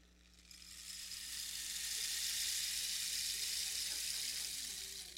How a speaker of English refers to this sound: That's not rain, that's hail coming down.